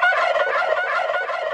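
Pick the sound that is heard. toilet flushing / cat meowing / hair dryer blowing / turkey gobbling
turkey gobbling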